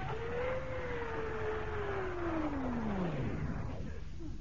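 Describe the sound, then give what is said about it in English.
Heavy ship engines roar and rumble continuously as the ship shudders, their droning pitch sagging lower and lower as they wind down toward the end. “It's just that before you start the engines, it does help if the ship is in the water.”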